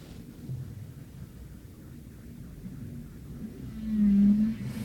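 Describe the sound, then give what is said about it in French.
Whale song: a single low, sustained tonal moan rises out of a deep rumbling underwater drone near the end, fairly loud against the murky background, with no voices. “Est-ce que vous vous reconnaissez dans cette baleine perdue ?”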